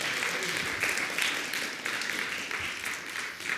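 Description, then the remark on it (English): An audience claps their hands in praise of Jesus Christ during a sermon, a dense, steady wash of many overlapping claps with no clear rhythm, sustained at an even, moderate loudness throughout. “Can you give him a hand clap of praise?”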